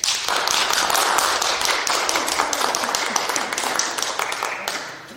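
A crowd claps steadily in a large room, dense applause from many hands that holds loud and then tapers off slightly toward the end.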